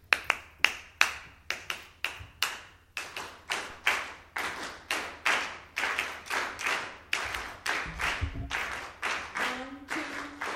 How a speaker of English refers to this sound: But at the very beginning is the habanera rhythm. Can you clap that with me?